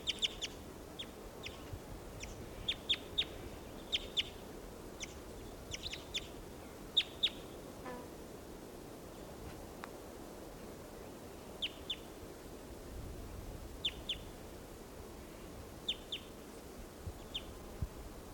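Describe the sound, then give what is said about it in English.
A wild bird calls in flight in short, high chirps, repeated in small bursts every second or two over a soft background hiss; the calls are fairly faint, with no one talking. “And there's that one, that wild one that just called, giving funny song phrases in flight.”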